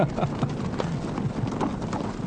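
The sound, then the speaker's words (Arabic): Horse hooves clip-clop in a quick, steady rhythm, a string of sharp knocking hoofbeats at moderate volume that carries on through the whole short stretch, with no one talking. “إذن هيا بنا فلنسرع قبل أن يحصلوا على خيلك.”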